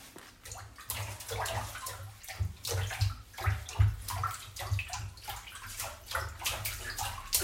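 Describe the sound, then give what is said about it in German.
Steady splashing as people wade barefoot through shallow water over sand by the waves, each step sloshing and churning the surface in a loose, continuous rhythm with no voices. “Aber durch das Wasser und Plätschern kann man die Schritte darauf nicht hören.”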